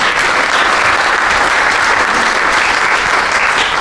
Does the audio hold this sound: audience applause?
yes